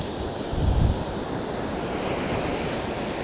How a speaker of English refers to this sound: I'm checking a wave. Can you hear wave sound? It's 16 degrees, beautiful day.